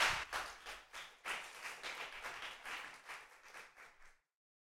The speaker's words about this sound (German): Und damit die beiden hier hinter mir besonders lange reden können, gehe ich schon von der Bühne. Applaus!